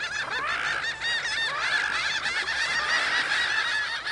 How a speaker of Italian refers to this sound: Il cielo si era riempito di uno stormo di uccelli dalle piume bianche, simili a gabbiani. I pennuti gracchiavano sfacciati.